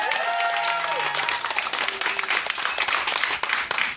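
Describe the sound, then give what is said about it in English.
A crowd applauds loudly and steadily to pick a favorite contestant in round one of a contest, dense clapping for the whole stretch, with a few whoops and a faint whistle-like tone rising early on. “So pick a favorite with your applause,”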